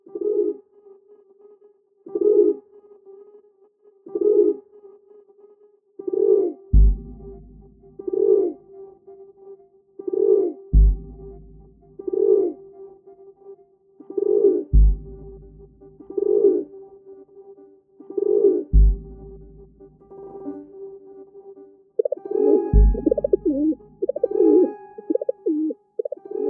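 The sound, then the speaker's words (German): A feral pigeon coos in a steady series of low, throaty phrases every second or two, with soft low thumps recurring between them and a busier burst of cooing at the end. “Sehr eindeutig, das war eine Stadttaube.”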